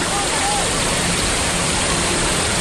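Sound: rushing flood water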